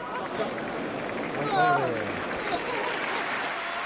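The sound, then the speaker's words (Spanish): A short, pained cry from tennis player Alexander Zverev, who has hurt his ankle, rises out of a steady roar of crowd noise and falls in pitch over about half a second, then the crowd din carries on alone. “Son los gritos desgarradores de un deportista al ver que se ha lesionado, parece que de gravedad por el momento, ahora mismo está siendo analizado ese tobillo,”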